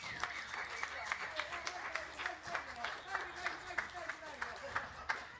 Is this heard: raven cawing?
no